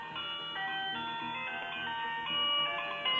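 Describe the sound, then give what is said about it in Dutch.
A phone rings with a melodic electronic ringtone, a steady tinkling tune of bright repeating notes that plays on without pause and without any voices over it. “Oh, bij mij gaat de telefoon.”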